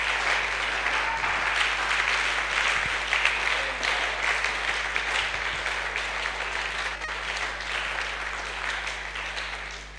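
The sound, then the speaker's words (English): A large audience claps to the Lord continuously for about ten seconds, a dense, steady wash of many hands without pause, with a low constant hum underneath. “Can you clap to the Lord in Jesus' name?”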